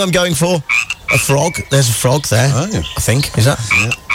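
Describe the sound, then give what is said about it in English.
A voice imitates a frog's croaking to the tune of a well-known song, in a rapid, rhythmic string of loud, throaty croaks that rise and fall with the tune, with almost no pauses between them. “I'm going for a frog. There's a frog there.”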